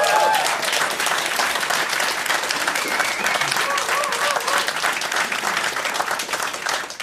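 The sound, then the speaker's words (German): A crowd breaks into sustained, dense applause for the Buchhandlung Schmitz bookshop in Essen, many hands clapping at once in a steady, loud wash that holds for several seconds, with faint voices and a brief whistle mixed in. “Die Buchhandlung Schmitz in Essen, ja, Applaus.”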